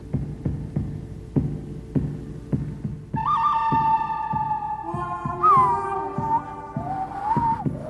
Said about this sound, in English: The musical accompaniment has the quality of a spaghetti western shootout that you'd recognize from the scores of someone like Ennio Morricone